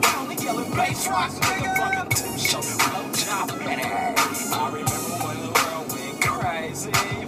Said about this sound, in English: Oh, here's all the traffic. Great.